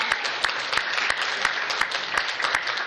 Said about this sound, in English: Let's give a round of applause for Apple, because they are awesome, man. They really are.